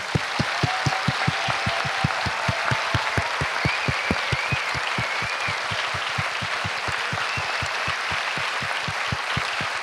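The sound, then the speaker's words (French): A crowd applauds steadily for the whole stretch, dense clapping with a strong rhythmic pulse of synchronized claps running underneath, loud, with no talking: a minute of applause for people who have been thanked at an event. “On va prendre une minute d'applaudissement pour toutes ces personnes qu'on a remerciées et à vous tous d'être venus, s'il vous plaît.”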